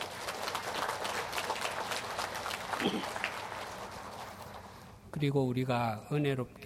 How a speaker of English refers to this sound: Let us give an applause of our gratefulness and praise to God for He embraced us and stayed with us through the year. 찬송의 박수를 올려드리십시다.